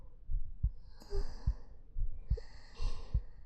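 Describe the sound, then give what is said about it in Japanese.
A steady heartbeat thuds in low, muffled double beats, about four lub-dub pairs, while soft, airy breaths rise and fall over it. “こうすると、私の心臓の音、聞こえない？”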